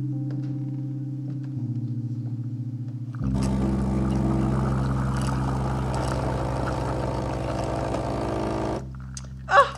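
A new Gaggia Classic espresso machine, imported and refurbished, drones with a steady low hum. Then its pump kicks in with a loud, rattling buzz and hiss for about five seconds before cutting off, followed by a brief clack.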